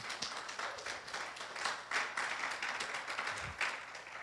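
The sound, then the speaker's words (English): An audience claps together in a steady, dense burst of applause, many hands overlapping into a continuous crackling wash that holds at an even, moderate level throughout. “But yeah, you can clap for that.”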